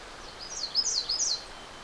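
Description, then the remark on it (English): A thin, high-pitched songbird phrase of several quick wavering notes, an American redstart singing weech-weech, one of its many different songs, over a faint background hiss with no talking. “The other bird you're hearing, weech-weech, a kind of a sound, is actually a redstart.”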